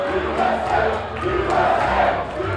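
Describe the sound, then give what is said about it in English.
A large crowd of Donald Trump supporters at a Republican election watch party at Capitol Square, Ohio, roars and cheers continuously as cable news networks project Trump wins, a dense wall of overlapping voices swelling in loudness, with a few excited shouts rising above the din and no clear speech. “One by one, cable news networks rattled off projected wins for Trump, and each time the crowd grew louder and more ecstatic.”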